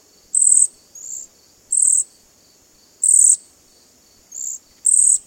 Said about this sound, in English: It nests here and spends late summer and fall in big flocks darting out from branches to catch flying insects and pigging out at berry bushes and mountain ash trees. Cedar waxwings sound like tiny mice snoring.